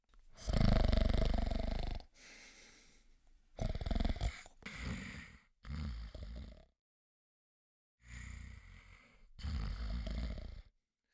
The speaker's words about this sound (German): Langsam trottet die alte Schildkröte schnarchend davon.